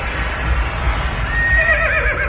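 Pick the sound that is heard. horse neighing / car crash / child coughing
horse neighing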